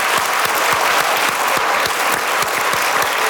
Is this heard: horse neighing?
no